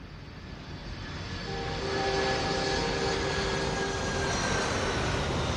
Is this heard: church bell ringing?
no